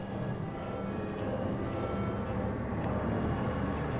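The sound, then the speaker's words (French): A car approaches as a dense, steady low rumble of engine and road noise, filling the sound and swelling slightly toward the end, with no voices. “Je sens venir une voiture. Une masse sonore qui m'empêche d'entendre autre chose.”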